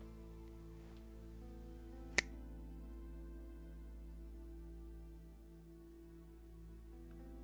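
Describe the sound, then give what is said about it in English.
A single crisp finger snap cracks out sharply over a steady, low droning hum that continues throughout; no voices are heard. “Say the following words out loud when I snap my fingers.”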